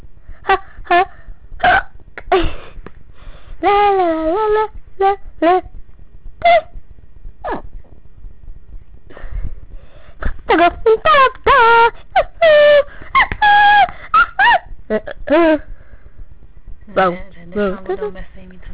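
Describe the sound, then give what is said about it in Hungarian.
Someone hiccups over and over, sharp abrupt gulps arriving in irregular bursts, with breathy voiced sounds and murmurs in between. “És szabad csuklanom?”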